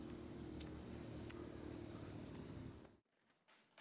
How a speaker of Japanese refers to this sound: 決して、 記者の質問に答えることなく車で走り去りました。